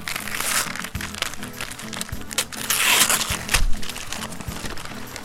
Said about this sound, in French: Oh, nous voyons un papier cadeau. Nous allons l'ouvrir.